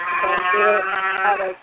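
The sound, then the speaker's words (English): A single drawn-out moo from a Highland cow on a ranch and vineyard, loud, with a wavering, slightly strained tone that fades at the end. No other sounds or voices accompany it. “The place that the cattle come from is Springwell Ranch and Vineyard.”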